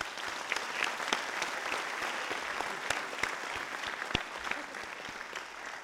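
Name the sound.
round of applause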